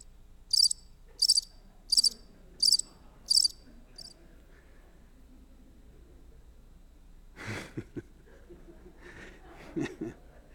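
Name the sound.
crickets chirping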